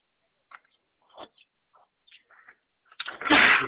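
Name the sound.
sneeze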